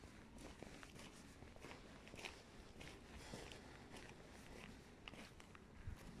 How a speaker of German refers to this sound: Ich bleib jetzt mal stehen, sonst hörst du meine Schritte im Hintergrund.